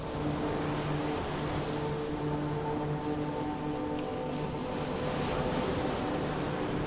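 Steady, continuous rush of ocean surf washing in, with a faint low droning hum underneath and no voices, holding an even loudness throughout.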